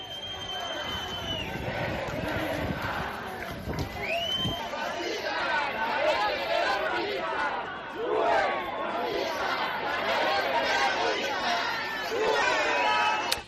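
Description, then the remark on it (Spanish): A dense, agitated crowd shouts and jeers continuously, calling "fascists" at people who hung banners remembering terrorism victims, many overlapping voices rising in angry bursts and hostile calls, a loud, chaotic din with no single voice standing out. “Las hordas se volvieron entonces rabiosas y les gritaron lo de fascistas.”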